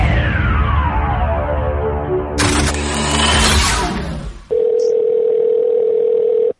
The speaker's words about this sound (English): The phone is ringing.